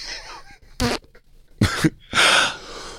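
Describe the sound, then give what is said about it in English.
A small fart breaks through in three short, raspy puffs, the last one a little longer and fuller, with faint soft breathing on a pillow and rustling between them. “Oh, she just did a little toot.”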